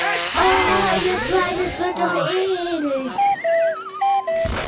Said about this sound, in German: Ich habe noch mehr Föhn dabei. Ich habe noch zwei weitere Föhn. Ach du meine Güte. Drei Föhn und jetzt machen wir die nacheinander an. Drei Föhne, die wir anmachen können.